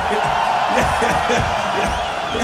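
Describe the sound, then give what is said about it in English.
A large festival crowd roars continuously, with cheers and scattered whoops rising from a dense wall of voices that stays loud and steady throughout; the crowd is moshing before the band has started playing. “This is a crowd that likes to get nasty. Am I right, Hellfest?”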